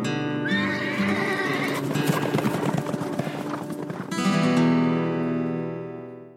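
A horse whinnies loudly, its shrill neigh rising and falling, while hooves clip-clop in a quick rhythm underneath before the call fades out at the end.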